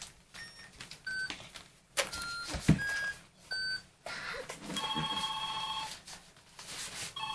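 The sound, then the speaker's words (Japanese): Electronic tones from a phone handset sound in short bursts with pauses between them, a call ringing out on the line to a hospital, without anyone speaking. “先生心配だから電話してみようか。”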